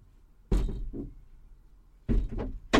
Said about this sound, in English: Open the doors, let some air in.